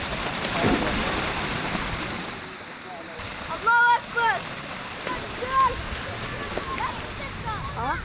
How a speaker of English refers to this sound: Barrel bombs have formed craters in that city, and broken pipes have created a waterhole for neighborhood boys to play in. But the boys are loving it. And a pool party unlike any other has started.